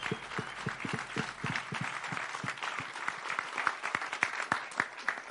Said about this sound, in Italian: lui è instancabile, è un grande amico, e un applauso più forte per lui, per favore.